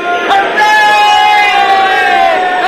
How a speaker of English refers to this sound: Hooray! What's all the cheering about? They're cheering. First round trip to the moon.